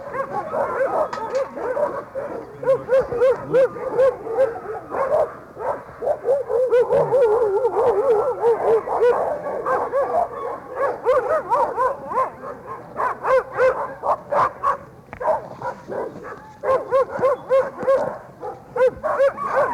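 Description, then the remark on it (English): A dog whimpers and whines almost nonstop, with high yelps and short barks breaking through in quick bursts. It sounds fairly loud, with no talking. “Basically, what I'm looking for on these is I look at the general health of the dog, the overall appearance of the dog, examine the mucous membranes of the mouth and the eye for evidence of anemia,”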